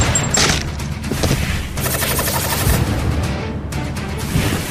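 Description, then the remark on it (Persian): A loud, sustained volley of gunfire, with rapid overlapping shots crackling continuously throughout and a heavy booming rumble underneath. No voices are heard. “اگه زیاد دور بشم تیرانداز و مرد تفنگی بهم شلیک میکنن.”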